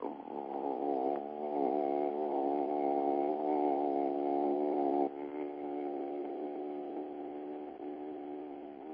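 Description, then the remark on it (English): A single voice tones one steady, resonant note for about nine seconds, the home note the voice goes to when talking about what it loves, with a slight shift partway through before the tone carries on, no words spoken. “And then what's really cool is to tone that note.”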